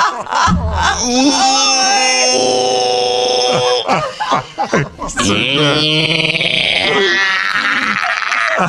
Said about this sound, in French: Il y en a qui écoutent la musique de baleine pour s'endormir. Toi, tu fais un power nap au son de gémissement.